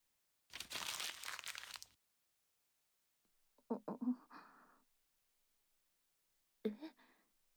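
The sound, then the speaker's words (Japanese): Paper crinkles as a letter found in a shoe locker is unfolded: a dense rustling burst, then a few shorter, softer crackles and rustles after a pause, with no voices. “下駄箱の中に何か入ってる。これは手紙？”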